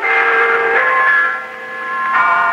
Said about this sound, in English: The broadcast included the chimes of London's famous clock tower. The female announcer said, "Yes, it's good old Big Ben.